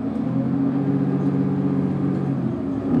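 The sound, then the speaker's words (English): Steady, droning engine hum from inside the 51B city bus in Berkeley as it drives towards campus, a low continuous rumble with a faint whine and no voices. “I'm riding the 51B bus towards campus, and long rides on this line are the reality for many Berkeley students.”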